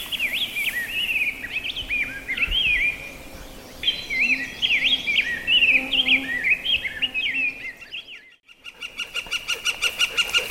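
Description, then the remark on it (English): A flicker woodpecker calls outdoors: bright, warbling bird notes that break into a fast, even run of repeated sharp calls near the end. The calls are fairly loud, with no talking. “That's the sound of a bird, a woodpecker, known as a flicker.”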